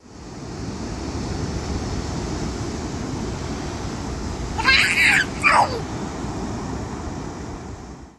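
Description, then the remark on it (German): Pacific Ocean water washes in a steady, hissing roar around feet dipped into it, broken midway by two short, high-pitched vocal squeals before the surf noise carries on alone. “Wie klingt es, wenn man die Füße in den Pazifik taucht?”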